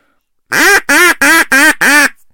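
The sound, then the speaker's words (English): A duck greeting call demonstrated on a duck call: five loud, raspy quacks in a quick, even series, clear, with tempo, cadence and volume trailing off, the final quack tapering into a short fade. “And then the other call is the greeting call, which is just a series of quacks with the tempo and cadence and volume starting to trail off.”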